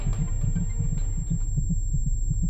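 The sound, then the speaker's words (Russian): A loud, fast heartbeat thumps in deep, muffled pulses that repeat steadily, with a thin, constant high-pitched ringing tone sustained over it. No one speaks. “Я чувствовал адский писк в ушах, разбавленный громким пульсом.”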